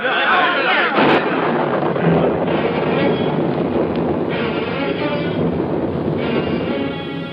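thunderstorm breaking

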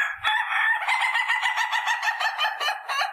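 rooster crowing

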